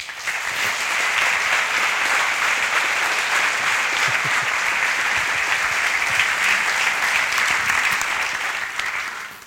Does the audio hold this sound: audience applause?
yes